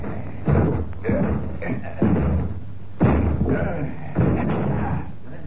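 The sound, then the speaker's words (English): The locked front door of a flat being broken down: four heavy, booming thuds land about a second apart, each crashing loudly and ringing out briefly before the next blow, forceful. “All right, Sergeant, we'll break the door down.”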